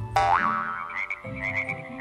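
A frog croaks in a steady string of rough, buzzy calls, opening with a sharp rising squawk and then settling into repeated raspy pulses over a low, continuous hum.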